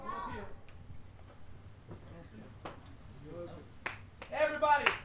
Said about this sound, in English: So we're gonna start with a clap. When we're all clapping